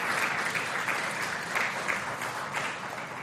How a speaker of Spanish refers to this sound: Dele una ofrenda de palmas al Dios de la gloria.